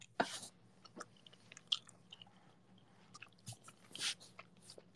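Wet chewing with crunchy bites and soft squishes at an irregular pace, followed by a gulping swallow, with no talking.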